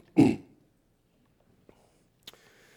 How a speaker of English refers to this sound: that you would calm my cough, that you would allow me not to be a distraction to the things that you would have us hear.